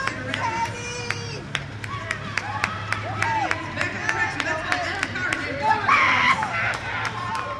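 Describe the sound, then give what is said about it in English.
A sparse roller derby crowd of maybe 50 people cheers at the David S. Palmer Arena: scattered sharp claps and taps at an uneven pace, mingled voices and occasional shouts over a steady low hum, with a brief high-pitched call near the end. “There's a sparse crowd at the David S. Palmer Arena, maybe 50 people.”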